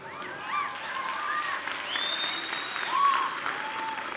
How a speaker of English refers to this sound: Now you can hear who's cheering, right?